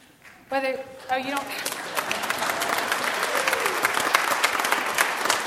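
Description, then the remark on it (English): An audience at a Sunday worship service at Greystone Baptist Church breaks into steady, dense applause of many hands clapping after a new pastor's welcome, building quickly and holding for several seconds after a brief spoken phrase at the start. “Believe it or not, that was not a fishing for applause, so whether you're a member, a long-time attender, if you're a guest with us, we're glad that you're here.”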